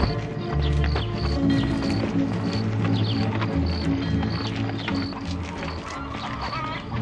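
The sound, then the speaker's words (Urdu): Horse hooves clip-clop steadily through a busy outdoor scene, with repeated bird or duck-like calls and other background commotion mixed in throughout. “آرام کر رہے ہو جبکہ میں تھکا ہوا ہوں, تم کیوں اپنے گھوڑے پر مجھے سوار نہیں کر رہے؟”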